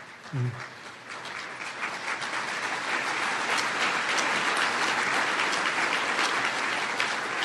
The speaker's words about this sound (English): Well-deserved applause.